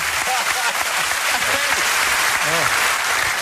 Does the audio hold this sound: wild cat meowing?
no